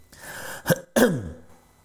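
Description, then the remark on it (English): Two sharp coughs, a short one followed by a longer, rougher one with a voiced tail, against a quiet background with no talking. “Right, hopefully that's the last cough, but I think it probably won't be.”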